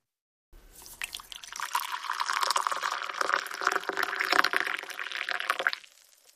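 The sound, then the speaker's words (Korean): Tea pours from a tall, cream-coloured ceramic teapot with a protruding spout at a hotel, in one steady stream lasting about five seconds, with a bubbly splashing texture that swells slightly before cutting off. No one speaks. “모나는 이렇게 말하며 주둥이가 불쑥 튀어나온 높다란 크림색 도자기 차주전자로 차를 따라주었다.”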